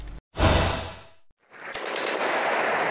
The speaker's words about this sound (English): Destruction and deafening gunfire right on Mariupol's doorstep. This is Shirokina, a small village 10 kilometers east of the key Ukrainian coastal city